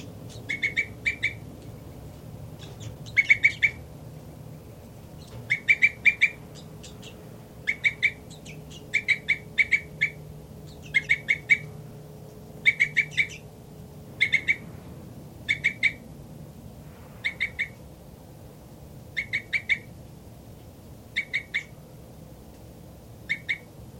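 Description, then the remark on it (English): Bird 3-3 at its nest cell, shared with bird 5-9 and their young, gives a steady series of short, high, chirpy calls, each a quick double or triple burst, repeating roughly every second over a low, constant background hum. No one speaks. “This is bird 3-3.”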